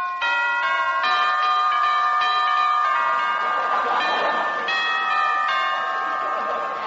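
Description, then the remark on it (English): The doorbell at Roy Rogers's house chimes out a short melodic tune, a steady run of bright ringing notes stepping up and down, clear and fairly loud with no talking over it. “Well, I'll ring Roy's bell.”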